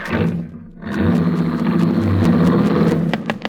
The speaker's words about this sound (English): they ran out to her car, jumped into the front seat, and drove it away.